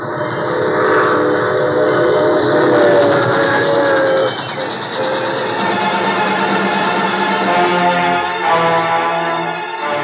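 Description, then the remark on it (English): A troop train carrying about 1,000 soldiers passes by, its heavy, continuous rumble and clatter filling the air while sustained whistle tones sound over it; loud throughout, with a brief dip midway and no voices. “There goes the troop train.”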